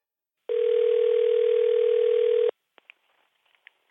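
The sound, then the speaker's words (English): A loud, steady telephone tone hums for about two seconds as someone places a phone call, then cuts off abruptly, followed by a few faint clicks on the line. No one speaks. “And for that, I need to get someone else on the phone.”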